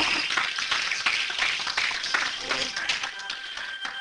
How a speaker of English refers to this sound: And praise the Lord. Give God a hand and clap of praise.